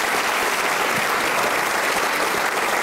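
An audience applauds steadily as a man goes off to smoke a cigarette out in the street, a dense wash of many hands clapping at an even loudness from start to finish, with no voices standing out.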